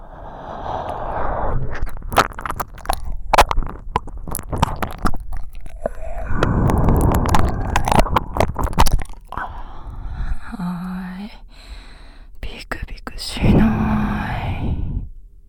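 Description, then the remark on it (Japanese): Soft, airy breaths drawn in slow waves several times, with faint clicks and rustles in between and no clear speech; a young man breathing while facing the listener from the front and holding their head. “正面から僕の息遣いを感じてドキドキしちゃうのはわかりますけど、この攻めに耐えられなければ一人前にはなれませんからね。”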